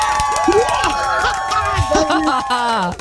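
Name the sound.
audience applause and cheering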